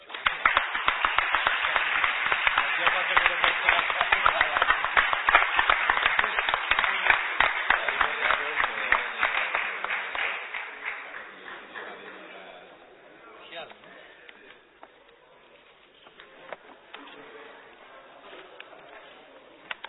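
An audience breaks into dense, steady applause that holds strong for about ten seconds, then thins out and fades into a few scattered claps and quiet murmuring. The applause is for the vice-rector, at the end of the formal protocol before a cocktail reception.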